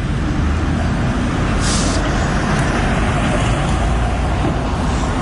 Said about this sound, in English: And the maddening drone of trucks going on in the background.